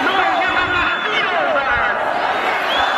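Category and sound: crowd, crowd noise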